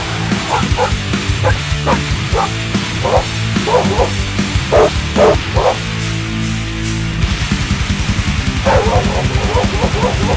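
Pit bulls bark in harsh, repeated bursts over loud, heavy metal music with pounding drums and distorted guitars, the barking serving as the vocal line and coming in clustered rhythmic volleys.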